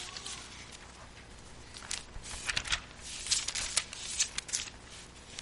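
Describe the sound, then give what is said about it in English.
Thin Bible pages rustle and flip in quick, irregular bursts as someone turns to Ephesians 6:18, a series of soft crisp swishes with brief pauses between, no voices present. “I think we're going through a lot of passages, so hopefully your fingers like turning pages.”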